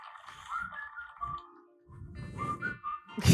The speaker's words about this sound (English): Wow. You're holding your phone up to the microphone. I can see you. He's not only whistling, he added like a filter to his voice. And a tambourine.